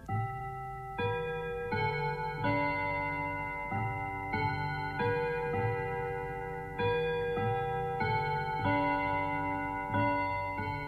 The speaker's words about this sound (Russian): Часы стучат, часы звенят. Сказать, наверное, хотят: ваше время истекло, попрощайтесь с буквой «О».